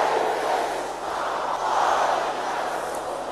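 An audience shouts together in one loud, sustained roar of many voices, holding steady for about three seconds with a slight swell midway and no single voice standing out.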